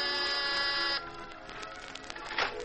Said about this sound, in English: And then you've got your finger on the door buzzer of Mr. Carr's cloud-high penthouse apartment.